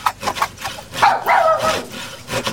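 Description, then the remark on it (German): A dog barks and yelps in a short, excited burst of a few calls, mixed with rough rubbing or scraping noises. No one speaks. “Lucky! Braver Hund! Hol das Stöckchen!”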